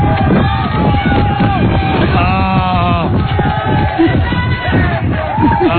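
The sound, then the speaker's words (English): A loud, continuous roar of a crowd cheering and shouting at the start of a race, with high whoops and yells rising over dense babble throughout. “Cheer on, your favorite.”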